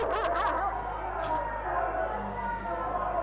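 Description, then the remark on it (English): Several dogs bark and yelp in a dense, continuous commotion as a posse chases someone down with them, mixed with indistinct shouting voices, loud, with no real pause across the few seconds. “he and his posse chased me down with dogs.”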